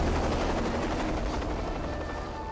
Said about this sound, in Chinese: 黄昏，一架米八运输直升机降落在导演部外的山丘上。